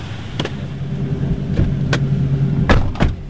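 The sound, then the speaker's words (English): A white Google self-driving car with a radar-like device on its roof idles with a steady low engine hum, broken by several sharp clicks and thumps at irregular intervals, like doors or fittings being handled. “It's got Google on the side of it. It says it's self-driving, and we're going to see whether that's true.”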